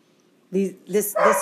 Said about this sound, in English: Our dogs are barking in the background. Don't mind them.